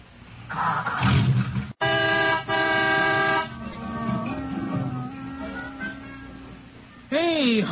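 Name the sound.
car horn honking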